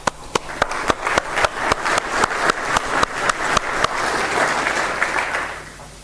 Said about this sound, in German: So, nach diesem kleinen, jetzt sind wir alle wieder wach, Klatschen hilft da, glaube ich, für.